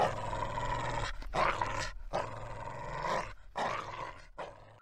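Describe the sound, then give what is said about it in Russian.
A dog growls and snarls in a series of rough, throaty bursts separated by short breaths, loud and continuous with no voices around it. “рычат, ворчат, как рычит собака.”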